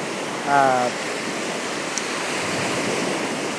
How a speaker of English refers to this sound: I'm sitting here on the shore of the Okanagan, and there's just one hell of an amazing storm blowing through. It's so noisy. The waves are lashing up on the shore. There's like white caps rolling out there.